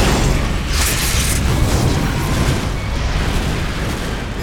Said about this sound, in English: And then the side of the pinnace opposite them exploded.